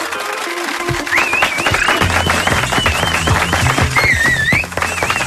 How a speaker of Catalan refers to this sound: Gràcies per aquests aplaudiments tan sincers que surten d'aquí, de l'estudi de RAC1, dels companys de RAC1, dels amics coneguts, saludats.